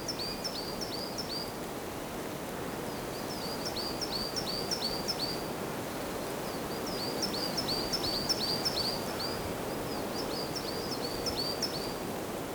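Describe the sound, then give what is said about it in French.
Birds in a snow-covered forest sing in short, repeated bursts of high chirping notes every few seconds, set against a steady rustle of wind through leaves; no one speaks. “La forêt, c'est aussi le refuge des oiseaux.”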